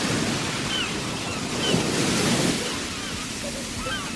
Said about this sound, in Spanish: Fuimos al mar. ¡Qué miedo tuve! ¡Y qué alegría! Es un enorme animal inquieto. Golpea y sopla. Se enfurece y luego se calma. Siempre asusta. Parece como que nos mirara desde dentro, desde lo hondo,